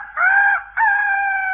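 A rooster crows loudly, one long crow in two strained, drawn-out parts with a brief break between them, and no other voices around it; it crows on command in the morning as a wake-up call.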